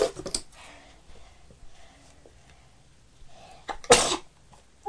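child sneezing

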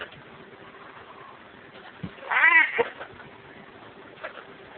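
cat meowing

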